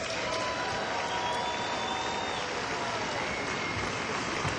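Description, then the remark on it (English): A dense, steady wash of audience applause fills the whole stretch, many hands clapping at once at a fairly even level without any voices standing out. “Cheap way for me to get applause, right?”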